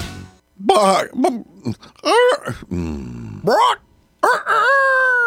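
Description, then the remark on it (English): A human voice imitates a rooster crowing in an advertisement for fall fun at Chicken Ridge Farm: a string of loud, drawn-out calls that swoop up and down in pitch, ending in a long, sustained final crow. “That's one talented rooster.”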